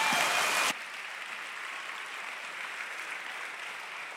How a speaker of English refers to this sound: Now, those of you that wanted to clap, now's your moment, all right?